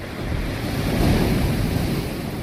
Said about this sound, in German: Ja, eindeutig, Wellen im Meer.